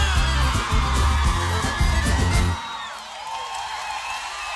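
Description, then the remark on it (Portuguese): A large crowd of women screams and cheers loudly, high-pitched and sustained, over pounding music that cuts out after a couple of seconds while the shrieking carries on. “Cadê o grito da mulherada?”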